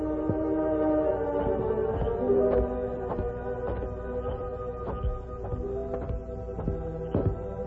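Repeated heavy knocks pound on the door of a small house next to a jail in an uneven, insistent series, heard over a steady musical background with no one speaking.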